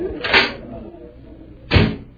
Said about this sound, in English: Here, this door opens